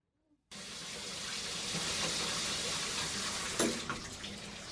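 After a brief silence, a shower starts running with a steady, full hiss of spraying water that continues to the end, with a small clunk or splash partway through.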